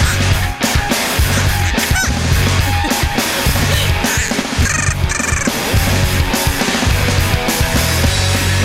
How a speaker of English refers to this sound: They said, eventually they said, it was fine to have a parrot in here, okay? But they, yeah, all right. But they said that under no circumstances can we let the parrot out of the cage.